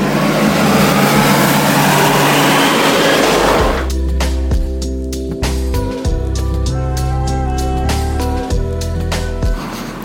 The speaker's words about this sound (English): Some traffic, hang on. Oh, there's a big tractor with hail bales. Listen to this.